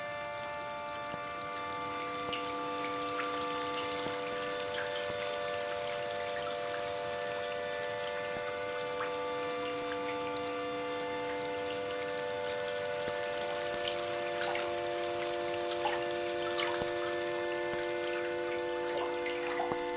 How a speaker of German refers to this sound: Der Wassertropf, Tropf, Tropf, Tropf, Tropf, Tropf, Tropf, Tropf, Tropf, Tropf.